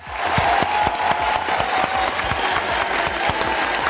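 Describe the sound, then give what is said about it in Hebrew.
An audience claps steadily for four seconds, welcoming keyboard player Eli Yifrach as he joins the show, a dense, even wash of many hands with a faint sustained tone running underneath. No one speaks over the clapping. “אלי יפרח, תנו לו מחיאות כפיים, רבותיי, מגיע לו באמת.”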